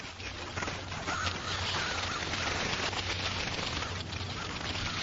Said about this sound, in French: Ah, là, on dirait qu'il y en a moins. Les oiseaux aussi sont passés.